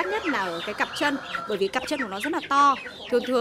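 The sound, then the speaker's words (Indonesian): Dong Tao chickens, a special breed prized for its large feet, clucking at a breeder's farm, a busy run of short, pitched calls overlapping one another without a break for a few seconds. “Ia mengatakan meskipun ayam kaki naga mudah dipelihara karena mengonsumsi pakan yang sama dengan ayam biasa, harganya jauh lebih mahal.”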